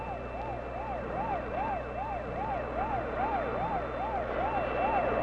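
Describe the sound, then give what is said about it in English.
Rescue trucks from a civil defense training center start down Mount Lee in the Hollywood Hills, sirens wailing in a steady rising-and-falling yelp, loud and continuous over a low rumble of engines and traffic. “On Mount Lee, high in the Hollywood Hills, rescue trucks from the Civil Defense Training Center are starting down the mountain.”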